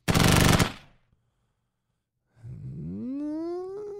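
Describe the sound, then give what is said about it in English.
A short, rapid burst of distant machine gun fire, loud and rattling for about half a second. A pause of silence follows, then a rising, whining tone that climbs in pitch and holds. “You want to try to remain more accurate like that person was doing, but we're not going to be responsible with our machine gun, so that one's out.”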